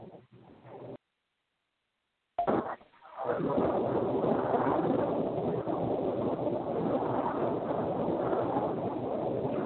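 A dumpster rolls past on its wheels, a loud, steady rumbling clatter that starts abruptly after a brief silence and keeps grinding on without a break until the end.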